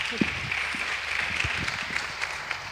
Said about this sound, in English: Give them a nice round of applause, everybody.